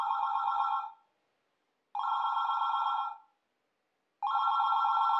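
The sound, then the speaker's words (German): A telephone rings three times in a steady pattern, each bright electronic burst lasting about a second with pauses between, clear with no talking. “Das Telefon klingelt.”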